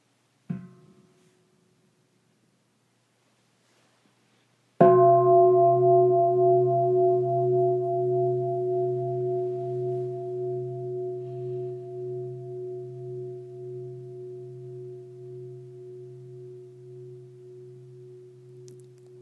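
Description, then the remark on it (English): A soft tap, then a single strike of a meditation bell that rings out in a deep, sustained, gently wavering tone and slowly fades over about fifteen seconds. “So as you find that, I'm going to invite the sound of the bell and just listen to the sound of the bell for a moment.”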